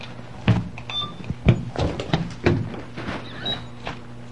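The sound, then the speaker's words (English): A toy cash register clacks as its keys are pressed in a loose, roughly one-per-second rhythm, with a couple of short, high-pitched electronic beeps over a steady low hum. “You know, we have one of these cash registers at home, don't we?”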